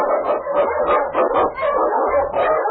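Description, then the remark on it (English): King, a husky sled dog in the Yukon, barks and yips in quick, repeated bursts, loud, with an excited, slightly howling edge and no talking underneath. “On King, on your Husky!”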